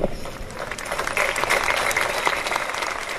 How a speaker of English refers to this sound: We heard some applause there at the moment the Cassini went dark and started to disintegrate.